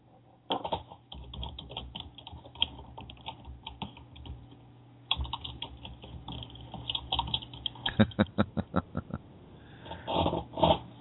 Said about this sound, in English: I'm sitting there, and I was actually shuffling the cards.